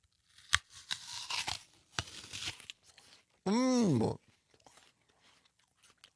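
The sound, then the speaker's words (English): A crisp, juicy apple is bitten with sharp crunching cracks, followed by moist chewing, then a loud, appreciative "mmm" from a voice before quieter munching. “So forgive us for eating in front of you, but listen to this pop.”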